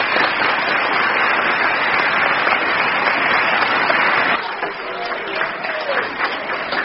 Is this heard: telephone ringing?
no